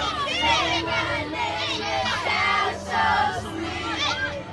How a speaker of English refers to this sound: Then, almost on cue, the kids all start singing.